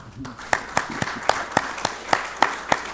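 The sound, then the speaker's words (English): The church audience at Rosedale Bible Chapel claps for itself on the church's birthday in a steady, even rhythm, about nine crisp, distinct claps at moderate volume over a low background murmur, with no clear words. “So, give yourselves a big clap.”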